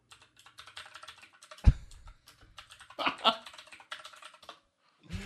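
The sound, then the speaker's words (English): Rapid, clicky typing on a mechanical keyboard without a number pad, typing a Google search: a steady patter of sharp keystrokes with brief pauses and a couple of heavier thumps, no voices. “I haven't had to use this on the podcast yet, but I got a mechanical keyboard. Oh. So I have to Google something. So here we go. Everyone's going to hear it.”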